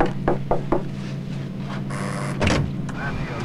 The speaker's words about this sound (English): The attendant knocks on the door.